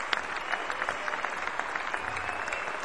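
A crowd applauds steadily, dense overlapping claps filling the whole stretch at moderate volume, with no voices on top.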